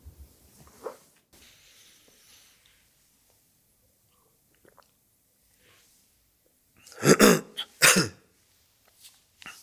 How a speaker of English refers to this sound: I've just coughed in my hand. Should have been in the elbow, shouldn't it?